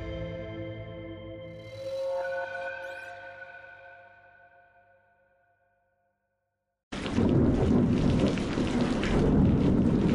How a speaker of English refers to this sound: It was a dark and stormy night. That's how a lot of scary stories start out. But that's how it was that night.